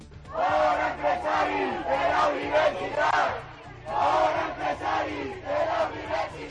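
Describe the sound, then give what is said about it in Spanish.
A crowd of students at a congress at the University of Alicante shouts and heckles former Spanish prime minister Felipe González with cries of 'empresario' and 'fascista', in loud, rhythmic waves of chanting voices, rising and falling in bursts with brief dips between them. “Entre los participantes está el expresidente del gobierno, Felipe González, a quien un grupo de estudiantes increpaba al grito de empresario y de fascista.”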